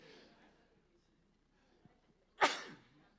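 A single loud, close human sneeze bursts out suddenly after a few seconds of near silence, with a faint breathy rustle near the start.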